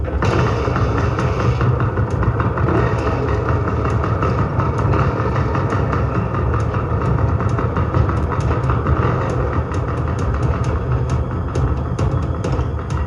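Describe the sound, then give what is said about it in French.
A motorcycle engine rumbles loudly and steadily for the whole stretch, a dense low roar with a constant rough texture and no clear rise or fade as it runs. “La moto peut m'emmener loin d'ici. Je peux partir d'ici, grâce à la moto.”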